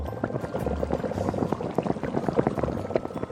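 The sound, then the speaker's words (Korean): Water bubbling at a steady boil in a pot with vinegar and salt added, hard-boiling eggs, a dense, continuous stream of small pops and gurgles with a low rumble beneath, fairly loud, no voices. “물이 끓는 시점부터 11분.”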